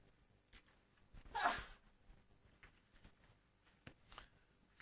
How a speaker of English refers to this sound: You know, I've only sneezed once when I was preaching. In all my years of preaching, I've only done it once.